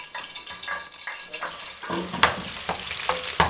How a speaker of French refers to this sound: Donc là, tu as tout mis le piment et l'oignon dans la casserole et tu fais rissoler.